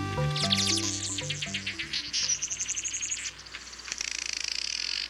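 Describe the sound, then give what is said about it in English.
Weaver birds chatter in quick, rapid high chirps and buzzy trills, fairly loud. A low sustained tonal backdrop plays under them at first before fading out. “Males of many weaver bird species construct a series of intricately woven nests with which to lure a prospective partner.”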